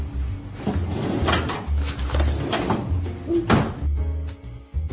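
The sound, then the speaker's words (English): A desk drawer holding a ruler is pulled open and pushed shut, with a few wooden knocks and sliding rattles over about five seconds, and a low rumble underneath. “Oh, yes, it's in my desk drawer.”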